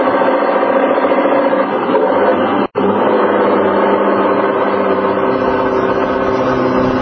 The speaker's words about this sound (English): Watch out for the truck. Yeah, he's pounding to make the hill. They always do coming across the bridge.